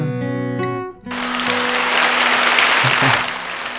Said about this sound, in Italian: L'applauso virtuale del pubblico di Radio X lo becchi anche tu, non c'è scampo. Grazie, grazie.